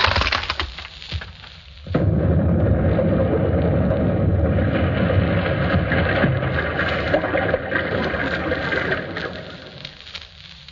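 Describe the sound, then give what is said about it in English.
An explosion sound-effect record is played while two panes of glass are crashed: after a quieter opening, a loud explosion erupts, then rumbles on with crackling, splintering debris and crashing glass for several seconds before slowly being faded down. “Then an explosion record played while two panes of glass were crashed.”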